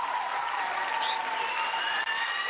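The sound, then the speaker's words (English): A steady wash of applause sound effect fills the whole stretch, dense crackling clapping with cheering tones rising through it, loud and even, without pauses or speech. “Oh, I love the applause.”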